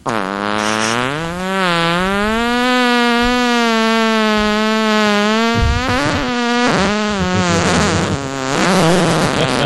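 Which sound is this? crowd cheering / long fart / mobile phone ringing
long fart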